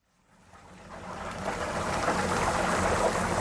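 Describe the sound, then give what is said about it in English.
Chicken coated in a batter of secret spices sizzling in frying oil at the Mr. Big Stuff eatery in Johannesburg: a dense, crackling hiss that swells up over the first second or so, then holds steady and fairly loud, with no voices. “Chicken coated in a batter of secret spices sizzles in oil.”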